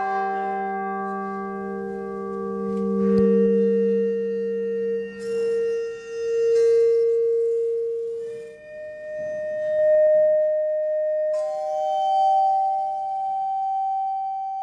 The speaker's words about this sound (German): Die Obertöne einer Glocke aber zum Beispiel kann man mit einem speziellen Gerät hörbar machen.